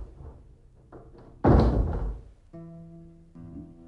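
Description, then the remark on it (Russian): A door is shut with a single loud slam that rings briefly before fading. Faint shuffling comes before it, and a steady low humming tone follows. “И дверь закрой.”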